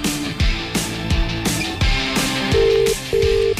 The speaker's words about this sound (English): It's ringing. Who's this? It's a clear ringtone